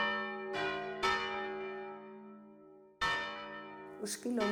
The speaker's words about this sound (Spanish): Hasta hace relativamente poco, los toques de las campanas marcaban el ritmo de la vida de la ciudad. Aún tenemos un toque con nombre propio, el esquilón.